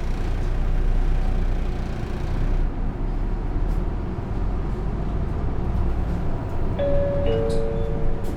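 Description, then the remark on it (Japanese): A steady, loud low rumble of a Toei city bus engine in Tokyo, bound for Komagome Station South Exit via Ochanomizu Station and Hongo-sanchome Station, fills the interior, with rattling and road noise throughout and a brief high electronic tone near the end. “本日も都営バスをご利用いただきましてありがとうございます。”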